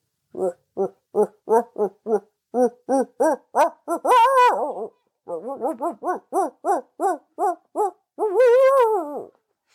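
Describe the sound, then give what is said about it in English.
A person imitates a barred owl, voicing two series of rapid, rhythmic hoots, each ending in a drawn-out, wavering call. The imitation is loud, with a short pause between the series. “But then my other, I feel like the one that I can do pretty well is the barred owl, which is like.”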